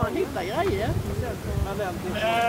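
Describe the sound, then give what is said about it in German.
Sheep bleating at a sheep demonstration by a tent: a wavering, quavering bleat near the start, then a second higher, steadier bleat at the end, over a constant noisy outdoor rumble. “Und offensichtlich gibt es noch Vorführungen rund ums Schaf, weil um das eine Zelt herum ist jetzt eine Menschentraube gebildet.”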